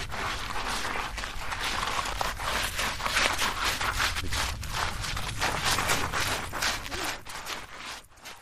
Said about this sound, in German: Das letzte Geräusch war, Schritte auf Sand.